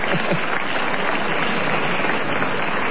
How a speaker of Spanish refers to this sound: Ahí están las turcas de José Ingenieros. Vamos a aplaudirlas, que son oyentes de hace... Ah, mire usted. De hace casi 2 años.